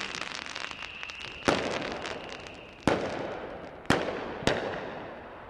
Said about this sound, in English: There are fireworks and firecrackers being lobbed in all directions around here, and there are flocks of birds tearing past at high speeds to try and escape the noise. I don't see anybody on the streets other than those making the racket.